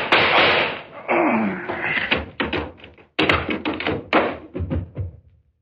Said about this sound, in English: All I need is this gun. What gun? Yeah, that kind of goes bang, bang, like this.